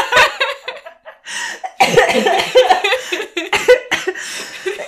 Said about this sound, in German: Vor lauter Lachen muss … husten.